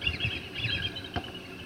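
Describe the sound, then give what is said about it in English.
Thin, high chittering calls from bald eagles repeat in short bursts over a low, steady rumble of the rushing Chilkat River, fairly faint, with one sharp click near the end. The sound is picked up by a microphone stationed along the Chilkat River at the Bald Eagle Preserve. “It's a microphone stationed along the Chilkat River that picks up sounds of the abundant eagles and broadcasts them in the center's lobby.”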